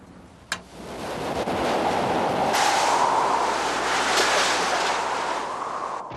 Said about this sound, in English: Hurricanes are storms of tremendous force. The winds howl and blow, and the rain pours down furiously.